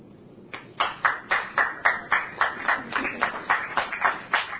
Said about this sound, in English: Well, you don't have to applaud that. You can give thanks to God.